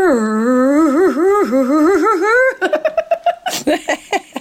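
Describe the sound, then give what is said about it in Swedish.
A slowed-down fart stretches into a long, warbling, low tone that wavers in pitch almost like singing, then breaks off into a quick run of choppy laughter. “Och sen tar de den här fisen i slow motion och då låter det som ett så här, som en sång.”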